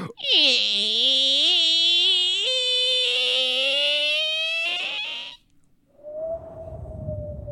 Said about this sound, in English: Yeah, we've already selected the door. We're going through into... I'm opening it now.